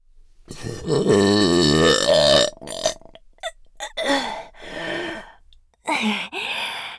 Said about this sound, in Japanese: かーやっべー、画面揺れちゃうくらいの爆音ゲップでした。